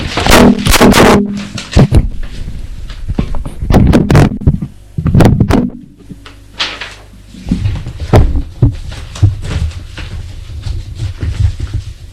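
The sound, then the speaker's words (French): Wooden drawers of a secretary desk in an apartment are yanked open and shoved shut in a rapid flurry of sharp knocks and scrapes, followed by quieter rummaging and shuffling as a man searches through the items. “Les tiroirs du secrétaire.”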